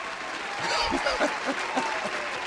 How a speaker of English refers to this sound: And even bigger cheer for her son